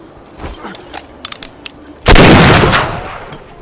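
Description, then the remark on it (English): A few faint, sharp clicks lead into a single loud gunshot from a film scene, whose booming blast rings out and fades over about a second and a half. No one speaks. “Those gunshots are loud.”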